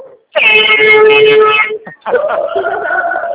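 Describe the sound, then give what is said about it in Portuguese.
A loud, steady horn blast lasting over a second, cutting off abruptly, followed after a brief gap by a voice or a wavering horn-like tone. “Toca a buzina, cadê? Cadê a buzina?”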